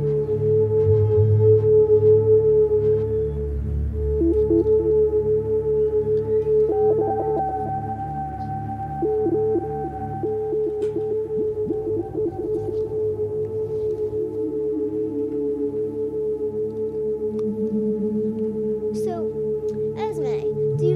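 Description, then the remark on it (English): Sustained electronic synth tones layered in steady, stacked pitches, with repeating echoes that smear and build into a warbling wash, loud and continuous with no voices. “is an echo place where there's length, volume, and feedback. My favorite is feedback.”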